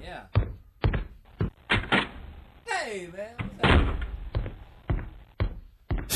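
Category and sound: human body sound, footsteps walking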